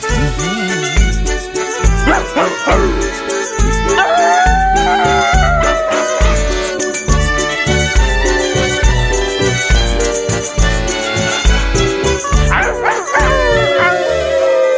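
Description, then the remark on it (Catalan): A whole audience howls like dogs in long rising and falling wails over loud, steady rhythmic music, with the howls swelling together near the start and again toward the end. “Mira com udola tot el... Tot el públic odolant, és meravellós.”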